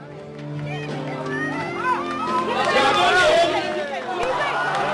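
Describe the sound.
A crowd of more than 800 Taiwanese in California at a Taiwan presidential election rally chants the ruling party candidate's name together, many overlapping voices forming a loud, dense roar that swells and grows more energetic after the first couple of seconds.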